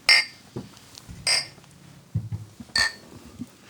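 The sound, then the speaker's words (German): Three bright glass clinks ring out, spaced about a second apart like a toast, with soft low handling noises and faint murmurs between them. “Dann auf jeden Fall Prost. Prost.”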